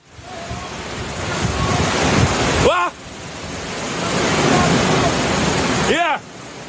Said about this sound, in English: Melissa, an oddly sweet-sounding name for one of the most powerful Atlantic storms ever seen, is hitting Jamaica. And the Caribbean island is braced for what's coming in these coming hours. Winds of 175 miles an hour and more will mean deaths.